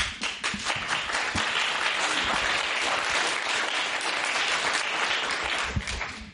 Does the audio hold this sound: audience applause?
yes